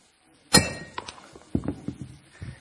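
A ceramic bowl shatters under a hammer blow with one loud, sharp crack and a brief bright ring, followed by several smaller clinks and clatters as the broken pieces settle.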